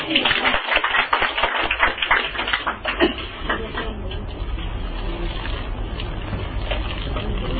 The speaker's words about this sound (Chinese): 咁啊，我哋拍手啦！